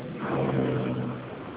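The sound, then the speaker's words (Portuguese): A car engine revs in traffic with a steady, droning hum that rises slightly, fairly loud, heard alone with no talking over it, like road noise picked up through a phone. “Eu confirmo, é porque eu estou no trânsito.”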